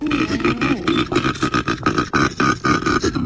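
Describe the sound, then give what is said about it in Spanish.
A koala bellows in a deep, rasping series of rhythmic grunting pulses, loud and continuous, with a snoring, belch-like quality and no voices. “Es un animal tranquilito. Con esa un pinta. Koala. ¿Un koala?”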